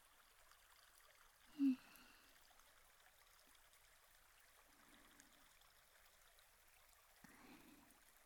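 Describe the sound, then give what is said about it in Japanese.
A small stream flows and trickles softly and steadily throughout, with a few brief low gurgling bursts rising from the water now and then. No one speaks. “こうやって小川でちょっとだけ涼んだだけでもだいぶ涼しくなりましたか？”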